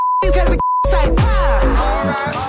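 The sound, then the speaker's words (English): Two short, loud censor beeps, steady single-pitch tones, cut into a sung vocal line, each blanking out the audio before the singing with backing music resumes. “I actually think we could use a few more beeps in there.”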